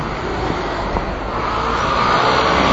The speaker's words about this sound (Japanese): ここ結構車の通りが多いですね。あ、ここダメだな。車が多すぎて音が、